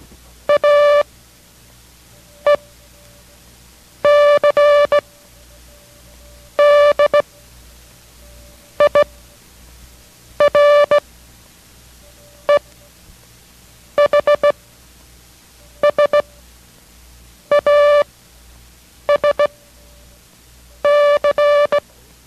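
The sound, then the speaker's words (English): Morse code characters A, E, C, D, I, R, E, H, S, A, S and C, repeated for a code-copying lesson, sent as a steady, buzzy mid-pitched tone, keyed in short and longer bursts. Twelve separate characters follow one another with pauses between them, and no one speaks. “we will send exactly those same characters and follow your copy, and if you left any blanks, fill them in.”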